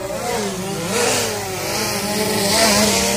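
A drone buzzes with a steady, motor-like whine whose pitch drifts gently up and down over about three seconds, fairly loud and continuous, with no voices.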